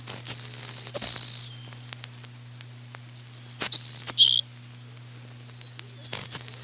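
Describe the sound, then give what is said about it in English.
A Savannah sparrow repeats a thin, high, buzzy song three times, each a few sibilant chips sliding into a drawn-out insect-like trill, clear over a steady low hum. “Another song you can hear from a moving car, even though it's surprisingly quiet and short, is the sweet snore notes of the Savannah sparrow.”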